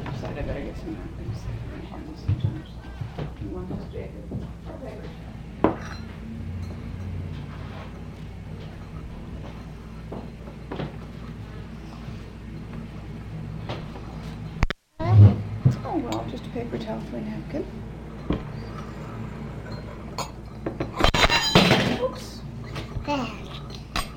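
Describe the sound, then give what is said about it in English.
Dishes of an old-fashioned pewter tea set, not the non-tarnishing kind, including a sugar bowl and a cream, clink and tap now and then, a few sharp knocks scattered under steady conversation, with a louder clatter of dishes near the end. “No, it's pewter. But it's not the non-tarnishing kind. It's the old-fashioned. Let's see if those are the sugar bowl.”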